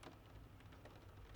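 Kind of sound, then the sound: nature, rain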